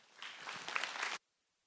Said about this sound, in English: And so would you guys give a warm round of applause for Coy Boyer?